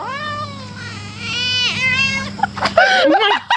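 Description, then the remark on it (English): A huge frog, about the size of a grapefruit, caught in a net near a pond, lets out a loud, drawn-out wail that wavers like a cat's meow, then breaks into a few shorter, choppier cries over a low steady hum. “But the weird thing is the frog in the net sounds like a cat.”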